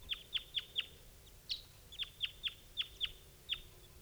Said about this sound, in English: Meanwhile, some other bird is flying over.